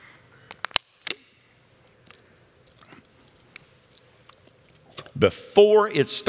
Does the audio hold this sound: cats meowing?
no